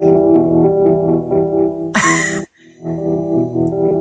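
An electronic keyboard plays drum sounds: loud, buzzing sustained tones with faint rhythmic beats, then a harsh, bright noise burst like a synthetic crash, a short pause, and the droning tones return.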